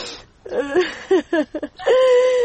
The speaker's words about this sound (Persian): خیر گریان نکو مادر. بچم چطور گریان نکنم؟ یک دفعه که رفتی باز خدا میدن نگه چه وقت را ببینم جان مادر.